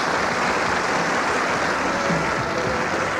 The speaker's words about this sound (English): Little round of applause there for ….